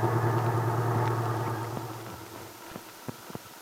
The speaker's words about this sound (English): Just then, Randy pulled into a parking space on Main Street. He jumped out and opened the door of the little truck, helping his mother out with the utmost gallantry.